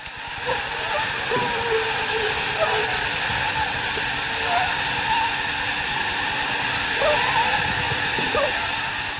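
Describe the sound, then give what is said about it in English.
A steady, high-pitched whining drone of many malaria mosquitoes buzzing together in a container at the research laboratory of the Swiss Tropical Institute in Basel, continuous and fairly loud throughout, with layered overlapping tones and small fluctuations in pitch. “The mosquitoes you just heard carry malaria.”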